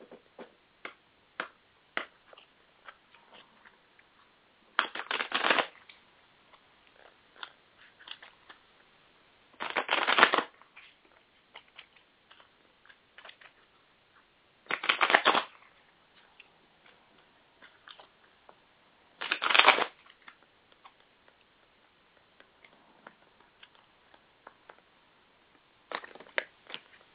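Cards from an animal power oracle deck are shuffled in five bursts of riffling, each a dense, papery flutter lasting about a second, spaced roughly five seconds apart, with soft clicks and taps of handled cards in between. No one speaks.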